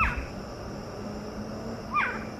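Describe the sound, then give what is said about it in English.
Two soft, short barking calls from a screech owl in a yard at night, a seldom-heard call of the species, spaced about two seconds apart, against a quiet nighttime background with a faint steady hum. “But Monday night I heard one giving soft little barks in my yard, which is a seldom heard call of theirs.”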